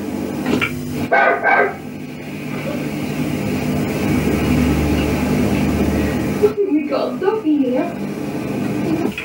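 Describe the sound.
Dog-like barking, recorded on tape during a poltergeist session, comes in two short clusters, one near the start and another near the end, separated by a steady hiss and low rumble like an old tape recording.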